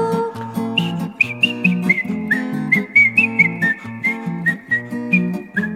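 A bright, high whistled melody, a rubber toy hedgehog whistling through holes in its right side, steps through short held notes over a steady, bouncy musical accompaniment with a repeating bass line. No one speaks.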